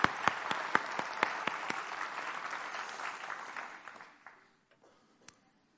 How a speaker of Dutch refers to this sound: Zullen we gewoon eens even als de iets oudere mensen van de gemeente al die jongeren even een applaus geven en bedanken. Geweldig. Super.